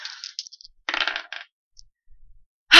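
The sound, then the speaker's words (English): Several bright clattering bursts of dice tumbling and knocking on a table, with pauses between, ending in a louder rattle, the roll totaling 13; no one speaks. “Okay, I think you yelled at the dice enough, because this is a 13, so that's not too bad.”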